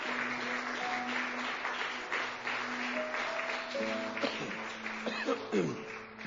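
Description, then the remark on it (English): An audience gives the Lord a hand clap of praise, a dense, continuous wash of hands, while sustained keyboard notes ring underneath and a few voices call out near the end. “Can you give the Lord a hand clap of praise with you tonight?”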